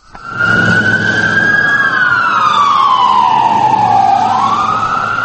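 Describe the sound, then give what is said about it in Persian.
A loud emergency vehicle siren wails steadily, its pitch sliding slowly down and back up, with a low traffic rumble underneath and no one speaking; emergency vehicles rushing to help after more than ten bomb explosions in Baghdad, Iraq. “ماشین های تعجیلی به کمک میشتافتند.”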